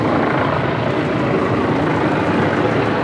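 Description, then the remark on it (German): Helicopters circling overhead during a state visit fill the scene with a steady, loud rotor roar and rhythmic chopping that persists throughout, with no one speaking. “Dass dies ein besonderer Staatsbesuch ist, sieht und hört man. Hubschrauber kreisen”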